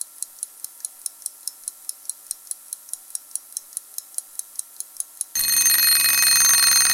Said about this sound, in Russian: Бля! Выруби этот ёбаный будильник!